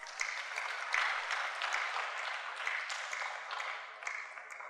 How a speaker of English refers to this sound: Thank you very much, worship team. God bless you. Let's clap for them.